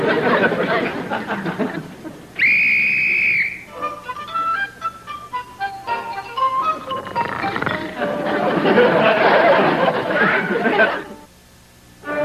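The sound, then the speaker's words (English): A shrill whistle is blown in one loud, steady blast lasting about a second to wake a sleeping man in Dennis the Menace, surrounded by excited chattering voices and laughter, with bright plinking music afterward. “On second thought, here's your whistle back,”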